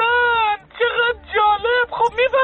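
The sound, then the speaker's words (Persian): A person imitates a female cow mooing with four drawn-out, nasal moos in quick succession, fairly loud, the pitch rising and falling through each call. “خب چقدر عالی صدای ماده گاو چطوریه؟”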